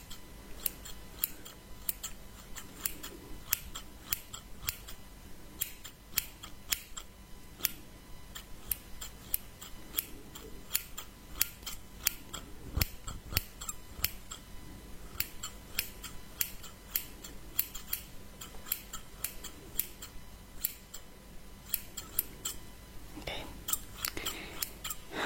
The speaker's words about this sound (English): clothes are quite hard to cut, but I guess it's a good thing.